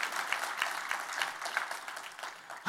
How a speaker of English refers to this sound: If you're going to give me a clap, give me a good clap.